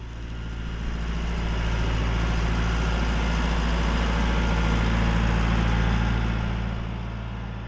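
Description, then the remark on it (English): A lifeboat's engine starts up as the crew go out on exercise, rumbling steadily and loudly, a deep low drone with a constant hum that swells slightly at the start and holds even throughout, with no voices. “the boat is starting up.”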